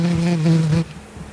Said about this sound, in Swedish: Humlan alltså. Ja.